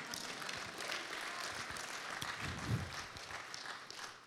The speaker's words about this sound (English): Okay, you can clap for that.